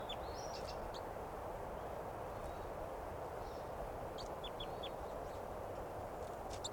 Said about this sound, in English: Wild bird chitter first. Wild. Chitter of the wild bird.